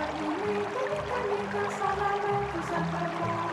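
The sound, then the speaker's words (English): A waterfall rushes steadily and continuously, a dense, even roar of falling water that stays at a constant loudness throughout, with no voices. “We climbed the cliff face of the waterfall.”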